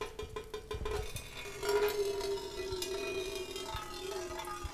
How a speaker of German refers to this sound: Und wenn man das alles unter die Schlauchöffnungen der Flaschen legt, wie mag das klingen? Die ersten zarten Töne. Wassertropfen fallen auf eine Blechdose.